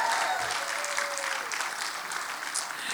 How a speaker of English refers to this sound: So if you are a winner in the house, why don't you give God praise that you are a winner? Now that was the clap of a whiner. Let's try that again.